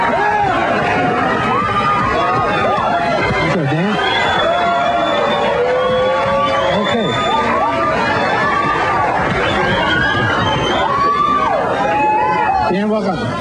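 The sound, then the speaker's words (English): A TV show's studio audience clamors, laughs and cheers at how young a contestant looks, in a loud, dense wash of overlapping voices that runs without pause, energetic throughout. “Crazy audience. All right, hey, calm down.”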